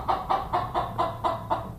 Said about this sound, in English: He raises chickens himself, including a very talkative one I met inside the store.